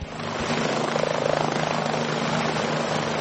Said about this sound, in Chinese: 空中传来直升机旋翼发出阵阵带有节奏的音浪，又是一趟任务的结束。费尔法克斯一号安全地返回机库。